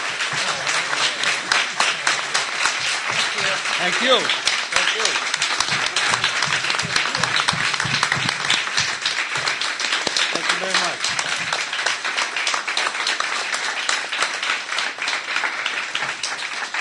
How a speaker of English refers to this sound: So first of all, let's give these guys a round of applause for being here. Thank you.